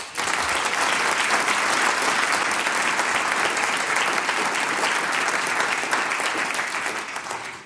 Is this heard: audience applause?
yes